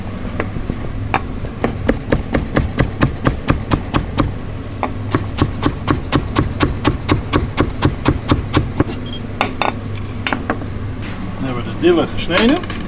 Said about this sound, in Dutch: Dille gesneden. Lekker fijn. Je ruikt de geuren.